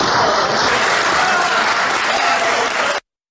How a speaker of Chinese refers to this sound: 观众一片欢呼。这就是 John Cage 的4分33秒的音乐作品